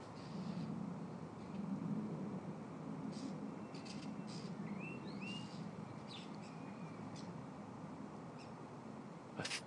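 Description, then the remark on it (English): A starling sings a jumble of short squeaks, clicks and rising whistles, mimicking another bird's call, fairly faint over a steady low rumble of background noise. “I'm sure it's a starling. I think he's copied. He's copied another bird, which they're famous for.”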